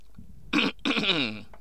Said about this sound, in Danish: Jeg skal lige have et glas vand. Du må gerne hoste.